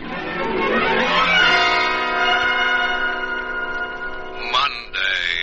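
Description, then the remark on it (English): An alarm clock rings loudly and continuously, a bright, sustained metallic bell tone that holds for several seconds before a brief stutter near the end, with no voices over it. “Monday, from the moment my alarm clock rings, I begin to hear those inner voices.”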